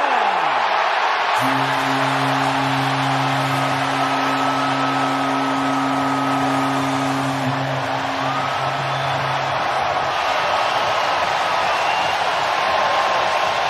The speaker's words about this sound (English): Gone. Vladimir Guerrero Jr.'s sixth home run of the postseason makes it 5-0 Toronto. All that cheering for. Shut up. Shut up. Stop cheering.